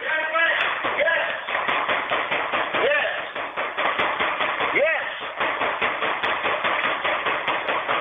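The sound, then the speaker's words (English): Rapid, insistent banging by police of the White Plains Police Department on a door keeps up for the whole stretch, a dense run of knocks heard over a phone line while a person talks above the pounding. “The White Plains Police Department are banging on my...”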